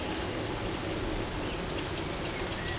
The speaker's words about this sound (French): Vous êtes là, au milieu de... la chênerie de Gaylor. Une pluie fine s'abat dans les feuillages.